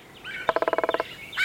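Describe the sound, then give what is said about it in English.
A red-headed woodpecker calls in a quick, even series of about ten harsh, rattling notes, with softer chattering calls just before and after, without any voices. “Red-headed woodpeckers are one of only a few woodpecker species known to store food for later.”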